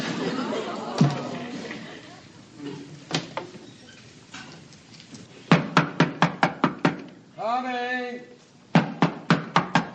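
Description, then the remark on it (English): Voices murmur over a few scattered thumps, then a police detective knocks on a door in a rapid burst of about six loud knocks, a brief shout, and another quick series of sharp knocks. “First it's facers, now it's knockers.”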